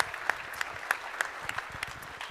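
An audience claps steadily, a dense patter of many hands with sharper individual claps popping out at a fairly even pace; the applause is moderately soft and no one speaks over it.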